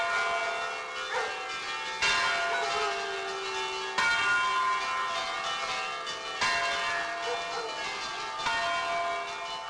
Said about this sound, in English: There's some great phrase about Italy being the land of 1,000 bell towers, and people really relate to the sound of their bells and to think that they survived the war and went back to their rightful towers.